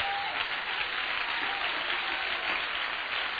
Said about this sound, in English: Let's stand and clap our hands to Jesus.